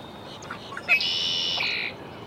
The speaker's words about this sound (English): Red-winged blackbird, Sweetwater Wetlands Park, Gainesville, Florida.